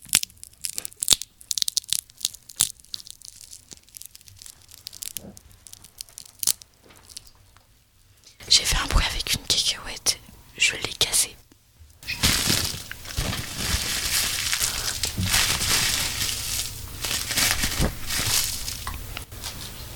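Crinkling of a plastic bag, sparse and intermittent at first, then growing into loud, dense, continuous crumpling and crackling for the second half, with no voices.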